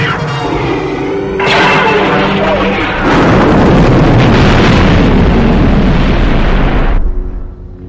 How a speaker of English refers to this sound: Real quick, I want to talk about that explosion. When they first added those extra scenes in that, I freaking was blown away. Because if you remember the original explosion, it was kind of just like a firecracker, like pop.